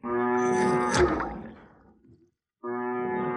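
A cow being milked moos twice: a long, loud, throaty low that fades out, then after a brief pause a second moo begins. No one speaks.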